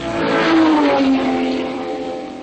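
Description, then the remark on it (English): A Porsche sports car engine roars loudly, its throaty tone swelling and then sliding down in pitch as the revs fall away. No one speaks. “For a car lover, there can be few sounds as rewarding as the big cat roar of a genuine Porsche engine, especially if you're the one who's driving.”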